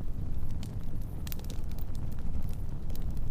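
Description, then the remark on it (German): A campfire of burning wood crackles steadily, with scattered sharp pops and snaps over a constant low, rumbling roar of flames. It sounds fairly loud, with no voices. “Die Geräusche des Lagerfeuers verbinden dich mit einem tiefen Wissen in dir und mit dem Bewusstsein, dass du verbunden bist mit Mutter Erde.”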